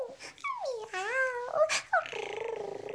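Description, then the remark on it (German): Cat-like vocalizing from the cat Schmusi: a few rising and falling meowing sounds, then a steady, rhythmic rolling purr filling the last second, loud with no other sounds around it, as she rubs her head against a man's shoulder while set on his arm. “Bibi hat Schmusi auf Bernhards Arm gesetzt und die reibt nun schnurrend ihr Köpfchen an seiner Schulter.”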